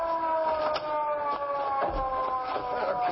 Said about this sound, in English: here comes a police car. Yeah, we'll flag it down.